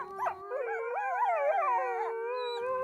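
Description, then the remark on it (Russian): Wolves howling together in the distance on a winter evening over a snowy field, several long wavering voices overlapping in a steady, mournful chorus that rises and falls, with no one speaking. “Белое заснеженное поле, маленький домик и поодаль волчий вой.”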